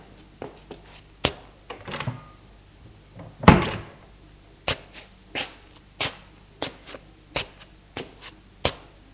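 An apartment door opens with a jumble of handling knocks and one heavy thump, followed by a steady run of sharp, crisp clicks like a light switch being pressed, with no voices.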